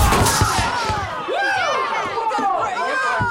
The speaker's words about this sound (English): He knocks over the fireplace guard.